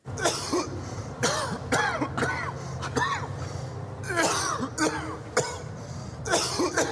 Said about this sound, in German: Bronchostop. Bronchostop. Zaubert den Husten weg.